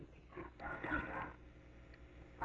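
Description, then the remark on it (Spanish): A small dog growls and barks angrily in a rough, snarling burst lasting about a second, followed by quiet and then a brief sharp yap at the end. “Creo que se enoja el perrito que hablas”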